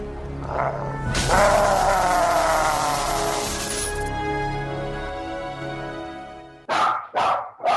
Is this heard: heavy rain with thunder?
no